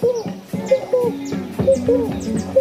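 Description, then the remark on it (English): A voice imitates the call of a frog heard in a forest: a quick, rhythmic run of hollow, cooing croaks repeated about six times, with thin high chirps sweeping down over the pattern. “There was this frog making this sound.”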